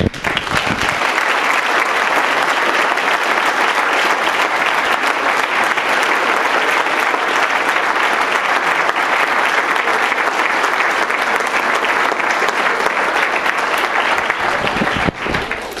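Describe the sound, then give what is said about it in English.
A large audience applauds people who are fighting a disease, loudly and steadily for about fifteen seconds, a dense wash of clapping that holds its level throughout before cutting off abruptly at the end. “I would like you to applaud these people who are fighting this disease.”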